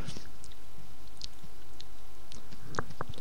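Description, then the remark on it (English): Sharp, brittle crunches of teeth biting through a hard lollipop that has been licked thin, bits breaking off, scattered irregularly with a couple of louder cracks near the end, over quiet chewing and no talking. “Alright, yeah, that's my lollipop.”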